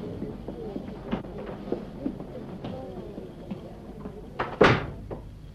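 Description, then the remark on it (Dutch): A door behind a curtain opens and closes: a few soft clicks and handle rattles, then a sharp, loud thud as it shuts. “En die kant uit. Deze deur.”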